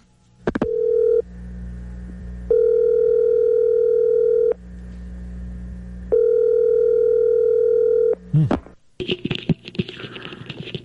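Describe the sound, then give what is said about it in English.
A telephone call to Tiger Woods: a quick click and a burst of dialing, then long, steady ringback tones repeating with a pause between. The ringing cuts off with a clatter as the call connects to a noisy line. “Well, we've got a phone number for Tiger Woods, so let's give him a call and see if he's checked out part one and part two.”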